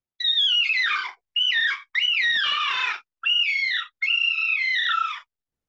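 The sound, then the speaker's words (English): A bird call is imitated with a bird bite call: five loud, high, warbling bursts, each pitch wavering and sliding downward, with short gaps between them and no talking. “I've had good luck with just that, you know, the bird.”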